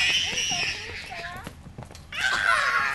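Toddlers aged 2 and 3 shriek and squeal at recess at Good Street Learning Center in South Dallas, Texas, dunking mini basketballs and pedaling red trikes; a burst of high-pitched cries at the start, a brief quieter lull with chatter, then another piercing round of shrieks.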